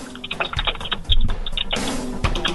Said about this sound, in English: I'm not typing. I'm away from a computer. Okay. I'm not accusing you of cheating. It just sounded like you were typing.